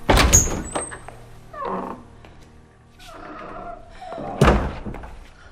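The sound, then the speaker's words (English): A pair of double doors bangs shut loudly as a woman passes through them, followed by softer rattling and creaking, then a second heavy thud a few seconds later as they settle. “She passes through double doors, then stands with her back to them.”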